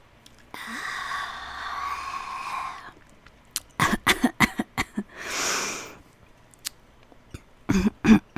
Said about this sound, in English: Wait, hold on, let me take a sip. My mouth is so cottony, mouthy, dry. Hold on one sec.